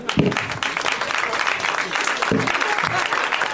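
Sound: audience applause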